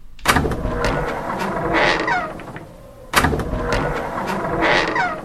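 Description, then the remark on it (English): A motorized video game door slides open after a button is pressed, with a mechanical whir and clunk, heard twice in a row, each run lasting about three seconds, fairly loud, with no voices. “A door opens as a result of pressing a button.”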